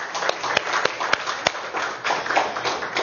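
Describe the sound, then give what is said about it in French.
An audience claps together to applaud the grace of God, a dense wash of overlapping hand claps with a few sharper, louder claps standing out, steady and lively for a few seconds. “Est-ce qu'on peut applaudir la grâce de Dieu pour nous?”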